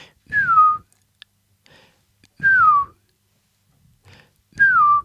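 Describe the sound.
A person whistles an imitation of a bird's melancholy two-note song, a high note sliding down to a lower one, repeated three times at even intervals, clear with some breathy air noise.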